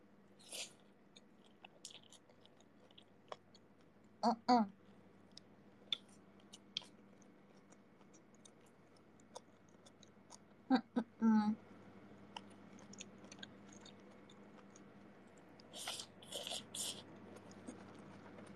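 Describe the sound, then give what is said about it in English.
Chewing and crunching as someone eats, with irregular bites and mouth clicks spread across a quiet background, a few louder crunchy bursts standing out between softer munching. “I'm eating. I'm sorry, I'm chewing.”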